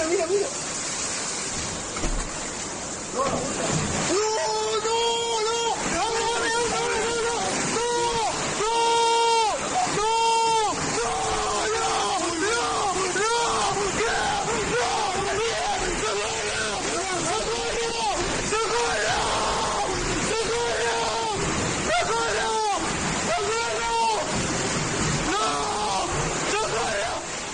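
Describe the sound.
Floodwater roars and surges loudly and continuously as it bursts through the collapsed wall of a house in Covisa, with heavy rushing and sloshing throughout while agitated voices call out over the torrent.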